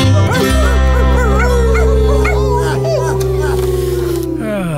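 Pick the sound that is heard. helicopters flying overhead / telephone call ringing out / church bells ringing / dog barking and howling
dog barking and howling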